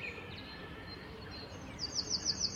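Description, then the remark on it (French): A Eurasian wren sings a rapid, high-pitched trill of quickly repeated notes, rising out of soft outdoor ambience after a few faint earlier chirps, clear. “Le troglodyte. Alors comme ça, ça a l'air sympa, c'est un tout petit oiseau, hein.”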